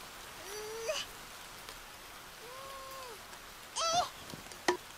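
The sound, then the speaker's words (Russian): Steady rain hisses evenly throughout, with a few brief wavering tonal cries rising above it and a couple of sharp taps near the end. No one speaks. “Дождь?”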